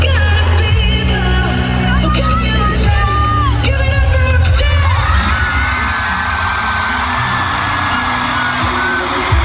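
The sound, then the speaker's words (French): A huge concert crowd at a pop concert in Antwerp, Belgium, screams and cheers wildly during a duet, a dense wall of shrieks, whoops and yells that stays loud the whole time, with a steady low thumping beat underneath. “devant une foule en délire”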